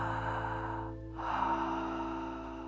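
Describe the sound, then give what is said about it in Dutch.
Two long, airy open-mouth breaths in a yoga pose, an Ujjayi-style breath done with the mouth open, like fogging a small mirror, separated by a brief pause. A steady, breathy hiss with no talking, set over a low constant hum. “Alsof je een spiegeltje vochtig wil maken.”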